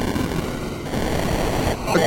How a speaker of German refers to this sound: Im schlimmsten Fall breche ich in wildes Rauschen aus.